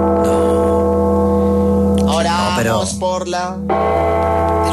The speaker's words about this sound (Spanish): Esas campanas que usted pone. Sí. Esas campanas son del demonio. No, ¿cómo así? Esas campanas. Ahí empieza.